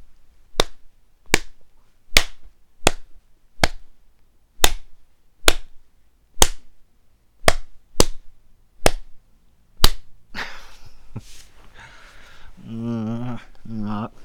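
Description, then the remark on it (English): A steady series of about thirteen sharp, loud slaps of a hand on a bare breast, evenly spaced under a second apart, followed by a drawn-out vocal sound from a person at the end. “I'm actually going to be slapping the tit I just kissed.”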